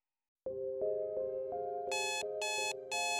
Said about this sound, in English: Your alarm clock sirens. You hit the snooze button and catch the last few precious minutes of slumber before your waking life becomes unavoidable. It blares again and again.